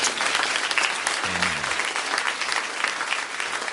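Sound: audience hand clapping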